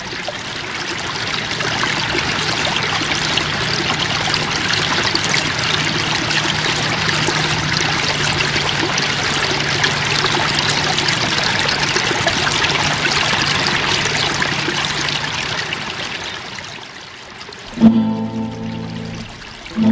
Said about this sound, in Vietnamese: Ước gì nàng được ngồi suốt ngày ở đây, lắm xa những cặp mắt khốn khổ ở Tara, ngồi đây để nghe tiếng lá reo xào xạc và tiếng nước róc rách chảy dưới bầu trời yên tĩnh.